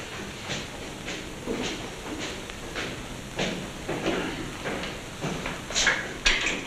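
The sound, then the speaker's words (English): The steel-barred door of a police interrogation cell rattles and clanks as it slides open, a run of irregular metallic knocks, finishing with a couple of sharper clangs. “The man picked out by the witnesses sits uncomfortably at a table in a police interrogation cell with a door of steel bars.”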